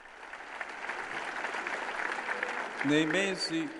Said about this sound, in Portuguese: Obrigado, um forte aplauso para aqueles que servem.